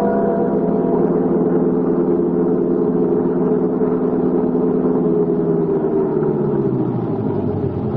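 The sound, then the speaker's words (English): A car engine runs steadily with a low, droning hum, loud throughout, then its pitch sinks toward the end as the motor slows. “Keep the motor going, Ilse.”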